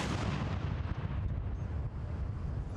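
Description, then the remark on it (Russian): Loud, continuous booming of a ceremonial artillery gun salute in Green Park, London, for the Queen's 87th birthday: six World War I field guns each firing 41 rounds at 10-second intervals, with deep rumbling reverberation that blurs the shots together into a sustained roar, and no voices. “Зрелищный салют – это лишь часть церемонии.”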